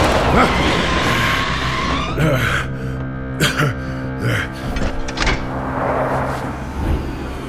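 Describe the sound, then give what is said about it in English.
A car driving fast on back streets screeches its tires in a long, wavering skid, followed by several loud metallic bangs as it slams into a dumpster, with rattling debris afterward. “That dumpster came out of nowhere, huh?”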